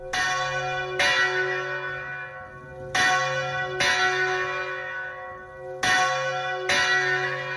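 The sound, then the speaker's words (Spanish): A gold church bell at a sanctuary rings out in repeated strikes, roughly every second or two. Each clang leaves a long shimmering hum that overlaps the next. Loud, with no talking. “vamos a oír la campana que ya la estamos escuchando”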